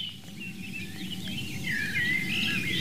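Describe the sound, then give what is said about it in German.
Birds sing outdoors at a roe deer hotspot with cover, forage and escape routes, bright chirping phrases rising and falling continuously, growing clearer toward the end, over a steady low rumble of ambient background noise. “Schöner Vogelgesang um die Rehohren rum den ganzen Tag.”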